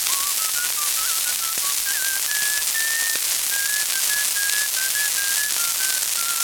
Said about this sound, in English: Oh, I'm so nervous. I'll whistle to keep up my courage.